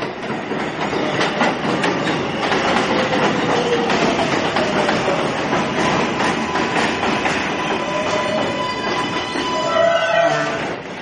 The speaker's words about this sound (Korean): 많은 사람이 타고 내리는 뉴욕 지하철역.